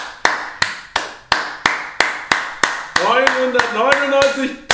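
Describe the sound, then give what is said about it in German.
A single pair of hands claps sharply and steadily, about three claps per second, loud, clapping 1000 times to mark 1000 Patreon supporters; partway through, a voice starts making sounds over the continuing claps. “So, jetzt haben wir es. Das hat 1000 Mal geklatscht.”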